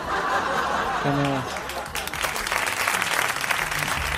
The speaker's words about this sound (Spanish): No me gusta este aplauso, ¿eh?